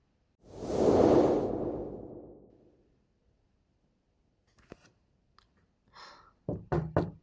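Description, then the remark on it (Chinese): A loud whooshing rush fades out, then come a few scattered soft taps and a closing burst of three quick, loud knocks on a door, with no voices. “小峰，小峰啊，小峰开门。”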